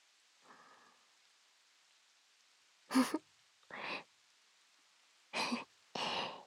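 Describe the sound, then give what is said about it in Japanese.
Steady rain hisses throughout, broken by four loud, broad whooshing surges of ocean waves crashing, each lasting under a second, with no voices. “いつもは一人だから波と雨の音聞きながらぼーっとしてるだけなんだけど”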